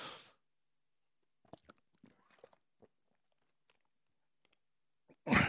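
A crisp bite into a crunchy apple, followed by scattered wet crunching and chewing clicks, ending with another loud, crackling bite; no talking.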